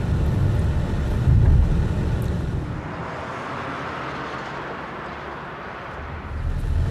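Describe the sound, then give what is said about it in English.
A car drives around turns with a steady engine rumble and road noise, the low drone giving way to a brighter hiss of tires partway through before the rumble swells again; no one speaks. “Am I driving badly, huh?”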